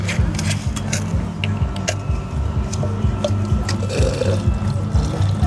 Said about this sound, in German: Man muss auch immer mal aus dem Crushed Ice Behälter das Wasser ausleeren.